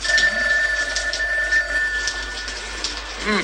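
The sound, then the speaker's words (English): A telephone bell rings steadily throughout, a bright, rapid metallic trill, with a soft hiss in the background and no one speaking. “Forget about the phone.”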